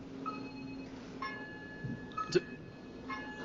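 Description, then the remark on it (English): A clock chimes ten o'clock with several soft, evenly spaced strikes about a second apart, each ringing tone lingering and overlapping the next against a low background hum. “Sorry, well, that would be my clock dinging for 10 o'clock.”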